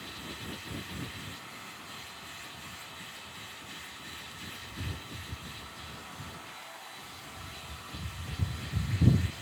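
A hair dryer blows on a man's hair, aimed along the direction of his crown whorl to keep odd kinks from forming, in a steady, breathy whoosh, with uneven low rumbles from the airflow that swell louder toward the end. No one speaks.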